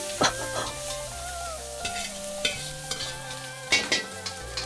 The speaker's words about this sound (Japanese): 厨房では本場の料理人さんたちが一心不乱に大鍋を振るっている。その姿はまるで料理たちのサーカス、一中華鍋。